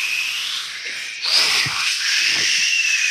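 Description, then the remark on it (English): A voice imitates the long, steady airy hiss of a mattress expanding, like air rushing out of something inflating. The breathy noise holds for about three seconds, swelling slightly partway through, with a few faint throaty rumbles underneath. “And then when it expands, does it make a noise like... Yeah, it goes...”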